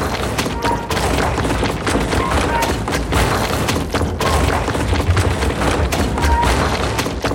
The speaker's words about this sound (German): Das sind die 18 eisenbeschlagenen Hammerköpfe, die ich immer wieder anhebe. Dann krachen sie in den Löchern.